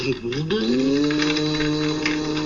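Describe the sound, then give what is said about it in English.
A voice imitates how a vacuum cleaner is supposed to sound when running, a steady humming drone that rises slightly at the start and holds at a constant pitch with a breathy, whooshing edge. “I mean, the vacuum cleaner is supposed to sound like...”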